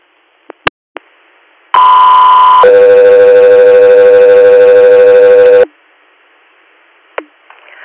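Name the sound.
radio dispatch alert tone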